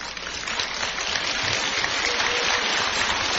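Steady applause from a group, a dense crackle of many hands clapping at an even level for a few seconds, with no voices over it.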